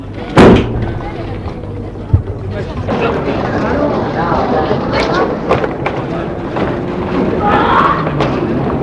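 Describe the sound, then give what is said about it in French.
A car door slams shut with one heavy, loud thud as someone gets into the car, followed by a fainter knock, over a steady low rumble with muffled voices murmuring in the background. “Et il entre dans la voiture.”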